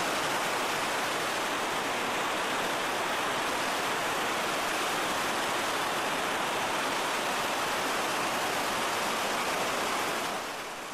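A powerful, continuous roar of rushing rapids at Storforsen, a large waterfall carrying about 250 cubic metres of water per second on average, recorded in summer; dense and steady throughout with no pauses, loud, fading slightly at the very end.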